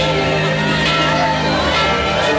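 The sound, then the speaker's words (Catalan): A dense crowd at a Carnival celebration shouting and crying out together under deep red lighting as the Carnival king's retinue climbs onto the stage, loud and continuous, with overlapping raised voices that edge toward frightened screams. “mentre els membres de la seva comitiva, amb una il·luminació vermella profunda, han pujat aquí a dalt de l'enterimat i sentim crits, gairebé esglais de por.”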